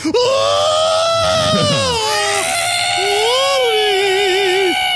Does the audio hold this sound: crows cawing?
no